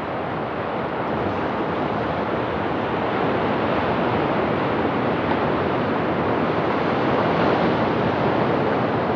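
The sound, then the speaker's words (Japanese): Steady, dense wash of Pacific Ocean surf rolling continuously onto the sandy beach at the mouth of the Natori River in Yuriage, Natori City. The sound is broad and constant with no distinct breaks, with possible wind rumble mixed in and no voices. “名取川河口の砂浜に立つと太平洋が目の前に広がります。”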